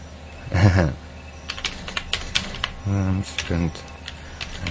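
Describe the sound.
A quick run of crisp keyboard clicks tapping in uneven bursts as a web address is typed, with brief bits of a man's voice speaking before and between the keystrokes.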